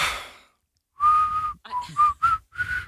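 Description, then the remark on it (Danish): A person whistles a short tune of several clear, steady notes around one pitch, with brief gaps between them, moderately loud, after a burst of breathy noise at the start. “Det er meget godt, det der. Den er meget lille fløjte.”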